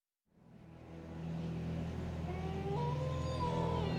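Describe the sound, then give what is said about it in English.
A distant wolf howl rings across the Tappan Zee after a moment of silence, a long wavering tone that climbs in pitch partway through, layered over a steady low drone. No one speaks. “The sound of a distant wolf's howl rang across the Tappan Zee, making Ichabod Crane shoot straight up.”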